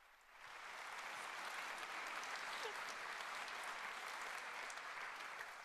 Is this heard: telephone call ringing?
no